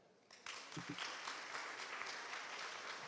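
A conference audience in a hall breaks into steady clapping in answer to who is already an entrepreneur, starting abruptly and keeping going at an even, dense level for a few seconds, with no voices over it.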